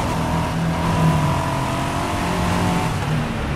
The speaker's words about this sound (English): But we're going somewhere, you guys. We're driving.